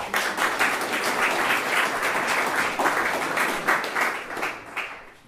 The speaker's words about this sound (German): Ein Applaus für Steffi Koch, bitte.